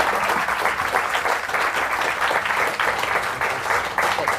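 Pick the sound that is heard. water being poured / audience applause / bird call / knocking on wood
audience applause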